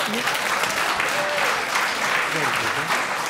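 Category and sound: crowd, one person clapping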